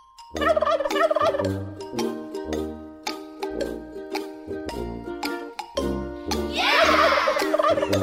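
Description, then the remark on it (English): A voice imitates a turkey's gobble for the 'Turkey or Hawk' segment of the Hawk and Crowder show, loud, with a series of rapid warbling bursts and a brief pause between them, ending in a longer, rougher gobble. “What other farm animals can you imitate?”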